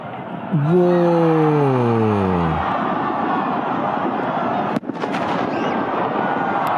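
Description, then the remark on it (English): The world's largest firework explodes in the night sky, a huge blast erupting into a sustained, roaring rumble, a falling whistle-like tone fading over the first seconds, with a sharp crack landing near the end. “The world's largest firework turns the night sky into day for one.”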